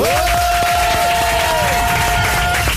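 A crowd applauds and cheers loudly and steadily for about three seconds to welcome French minister Cédric O, dense clapping filling the sound, with a sustained whistle-like tone held over the noise for most of it.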